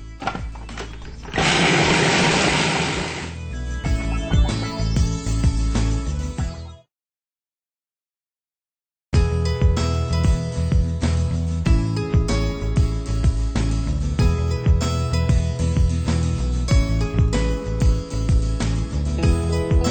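A food processor whirs loudly as it blends dates into a cobbler crust, with a couple more dates added to help bind it, running steadily for several seconds, cutting off briefly, then starting up again with a grinding, chopping motor sound.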